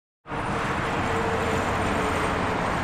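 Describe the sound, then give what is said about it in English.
After a brief silence, a steady, loud roar of highway traffic in Salem sets in and holds without pause, a continuous wash of road noise from passing vehicles. “Just a few hundred yards from the traffic in Salem, Governor Ralph Northam made a new pitch to improve Interstate 81.”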